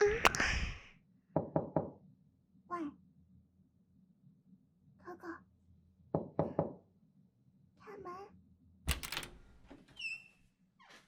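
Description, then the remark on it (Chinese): Several bursts of sharp knocking on a door late at night, each a quick cluster of raps, separated by pauses in which a muffled voice murmurs faintly over a low steady hum. “你在干什么呢？这么晚你还不开门？”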